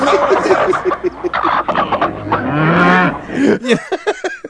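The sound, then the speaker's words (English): Loud clucking from chickens and grunting from pigs tumble over one another in a busy, overlapping jumble, with a few drawn-out, sliding low cries mixed in among the quicker bursts. “Out of those chickens and pigs and whatnot.”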